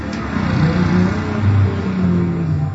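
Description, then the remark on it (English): Engines rumble steadily as cars and ATVs drive past on a road next to beach bars in Puerto Viejo, a low chugging drone that swells and fades slightly over a few seconds with no voices. “Puerto Viejo, cars and ATVs chug along roads next to beach bars.”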